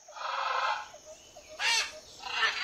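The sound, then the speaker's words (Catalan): A parrot perched on a tree branch squawks three times in harsh, raspy bursts: a long screech first, then a sharper cry and another rising squawk, fairly loud with no talking. “I molt a la vora d'on hi havia l'escarabat i la rata, hi havia un lloro enfilat en una branca d'un arbre que ho havia vist tot. I des de dalt de l'arbre es va posar a cridar.”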